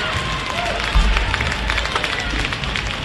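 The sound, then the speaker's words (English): A crowd applauds at a college hockey game as Middlebury fans rise to applaud the Panthers after a 4-3 loss to the Colby Mules, a steady wash of clapping hands with scattered crowd noise mixed in. The level stays fairly even, with a brief low thump about a second in. “But the Middlebury faithful here rise and give the Panthers a round of applause.”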